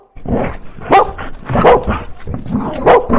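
A dog barks loudly, a run of sharp barks at an uneven pace, with softer yips in between and no one talking.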